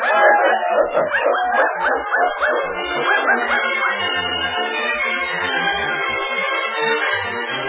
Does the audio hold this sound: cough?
no